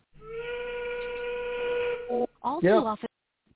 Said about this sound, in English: Oh. Hang on. See if you hear this whistle.